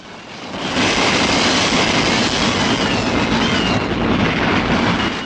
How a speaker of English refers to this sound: The back carriages are free. The train speeds away.